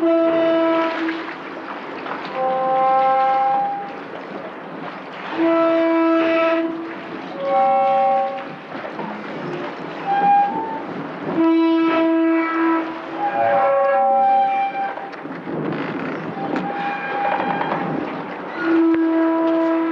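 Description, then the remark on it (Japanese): A pier jutting into Shiogama Port creaks as waves rub it, letting out drawn-out, tonal groans one after another at uneven intervals, steady, almost like a large bowed string instrument, with no voices. “港に突き出た桟橋が波で擦れる音ですが、私には大きな弦楽器を練習している音に聞こえます。”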